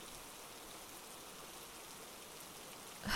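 Steady rain hisses evenly throughout, a dense wash of fine droplets with no voices, swelling briefly louder right at the end.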